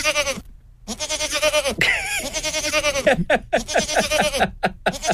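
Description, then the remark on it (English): Goats bleat in a rapid, overlapping chorus of wavering, nasal cries, several animals calling loud one after another with brief gaps between bursts. “I think our new Fully Charged ringtones could be goats.”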